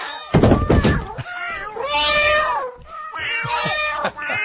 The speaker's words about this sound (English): Stupid chatty cat. Stupid kiss and tell cat.